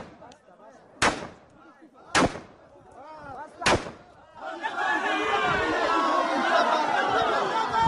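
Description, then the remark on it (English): Three sharp, loud bangs like gunshots ring out among murmuring voices, then a crowd of men erupts into sustained, loud cheering and shouting that continues to the end, after an Afghan woman is executed for adultery by the Taliban. “The chilling sound there of men cheering after an Afghan woman is executed for adultery by the Taliban.”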